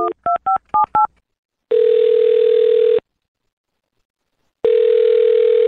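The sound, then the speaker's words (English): Five quick telephone keypad beeps dial a number to call a man, followed by two long, steady ringing tones separated by a silent pause, clear, with no voices. “Well, dial this phone number right now and see if we can get him on the phone.”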